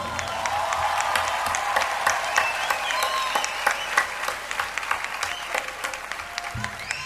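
An audience bursts into sustained applause, dense overlapping claps at steady loudness for several seconds, thinning slightly toward the end.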